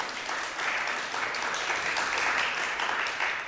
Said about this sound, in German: Da war ein bisschen unsicheres Klatschen, aber hat jetzt auch gerade jeder geklatscht? Nicht jeder.